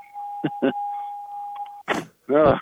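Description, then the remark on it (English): A steady, high-pitched car door chime rings continuously beneath a couple of brief spoken sounds, then stops just as the car door thuds shut. A voice follows briefly. “And I got to close the door so the bell quits ringing.”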